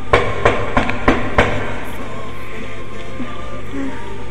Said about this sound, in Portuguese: Vou bater na porta.